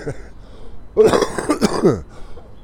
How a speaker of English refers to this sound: Yes, the cough still lingers.